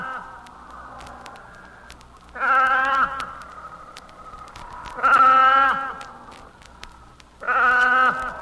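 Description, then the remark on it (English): An orphaned pup that has lost its mother cries out three times in loud, wavering, bleat-like wails, each lasting under a second, separated by pauses filled with a steady low background murmur. “There's no sound more heartrending than that of a pup who has lost his mother.”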